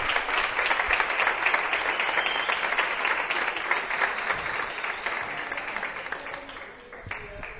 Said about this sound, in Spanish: Entonces, tenéis que subir aquí a recoger la carta. Un aplausito, eso.